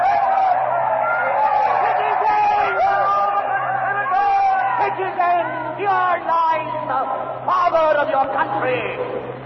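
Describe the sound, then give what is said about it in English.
A large crowd shouts and clamors in a frenzied uproar, calling for vengeance as the mutilated body of the murdered Caesar is exposed, many voices overlapping loudly and continuously with rising, excited cries throughout. “The crowd is in a frenzy.”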